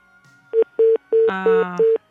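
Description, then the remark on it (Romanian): A phone line cuts off during a listener's call to a radio program, into a series of five short electronic beeps, evenly spaced and fairly loud, with a buzzy layered tone briefly overlapping near the end; no one speaks. “Aoleu, se întrerupe telefonul.”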